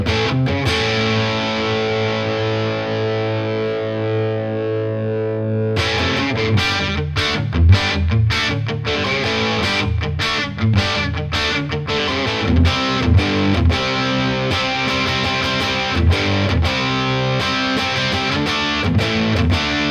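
An electric guitar played through a tube amp turned to max on its crunch channel without touching the volume, the preamp tube saturating naturally for an Australian pub rock crunch: a sustained overdriven chord rings out, then punchy rhythmic riffing with choppy muted stabs, loud, with no talking.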